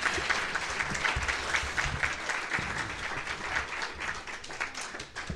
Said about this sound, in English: Can we have another round of applause for our Teaching Excellence Awards winners?